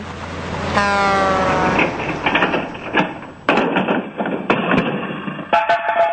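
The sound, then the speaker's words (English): A heavy truck rumbles past in the street with a brief blaring horn, then several sharp cracks and crunches ring out as a cell phone thrown into the street is run over beneath the steady engine roar. Recorded by Channel 6. “I've got the recording here of the truck running over the cell phone that you threw.”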